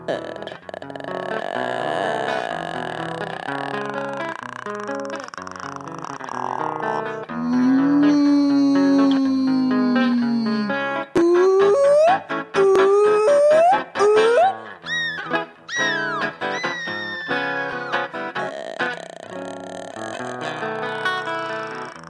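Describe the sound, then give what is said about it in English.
A voice imitates humpback whale song: long, low moaning glides and a series of rising whoops, sustained and fairly loud, with faint musical backing underneath and no speech. “I've no idea if whales sing bridges, but I'm going to give it a go.”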